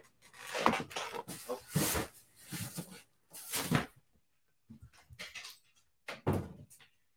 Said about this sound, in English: So my dog has figured out that all he has to do is open the door. Hold on. Let me get him out.